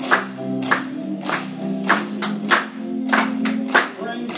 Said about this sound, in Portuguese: Vamos batendo palmas para ele mais uma vez.